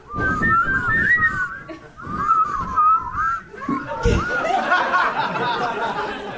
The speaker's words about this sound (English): I can't really whistle on it.